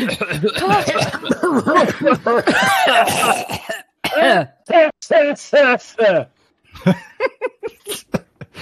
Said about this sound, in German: Er bricht unter der Kraft des Zwerges und dann mit einem schallenden Knirschen zerbricht er komplett und wird zerbröselt und löst sich in schwarzen Staub auf, der aufgewirbelt wird in den Raum wie ein Nebel, sodass ihr alle ein wenig husten müsst.